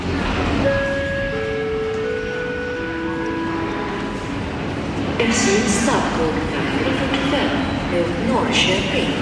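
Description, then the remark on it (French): Busy ambience at Stockholm Central Station, Sweden: a steady rumble with a murmur of voices, thin sustained tones early on, and louder clattering and screeching bursts partway through. “débute à la gare centrale de Stockholm.”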